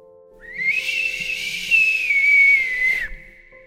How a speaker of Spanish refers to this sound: El silbido se escuchó otra vez, más fuerte.